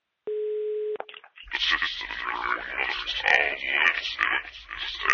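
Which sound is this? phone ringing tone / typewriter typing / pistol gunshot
phone ringing tone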